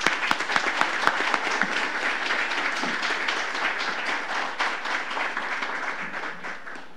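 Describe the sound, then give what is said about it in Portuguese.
Steady applause from an audience at an honours ceremony, honouring a military reserve officer: a dense crackle of many hands clapping at an even level for several seconds, with a few sharper individual claps standing out at the start. “Convidamos neste momento o senhor Silvio Monteiro Tabaco, militar da reserva, para se posicionar e ser homenageado com os aplausos dos senhores.”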